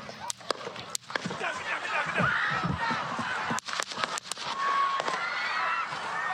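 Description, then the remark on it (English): Gunshots at a campaign rally in Butler, Pennsylvania, fired while former President Trump was on stage: a handful of sharp, loud cracks in two bursts, a few quick pops early and another cluster a few seconds later, over a steady roar of crowd voices. “We do not know if anyone, including Trump, was struck by what sounded like gunfire.”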